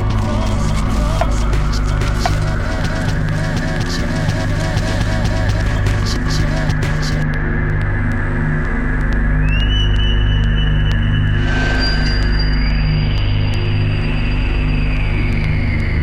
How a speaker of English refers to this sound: The water running.